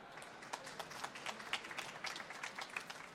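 An audience applauds steadily, many hands clapping in a dense, irregular patter of sharp, crackly hits at a moderate, even loudness, with no talking.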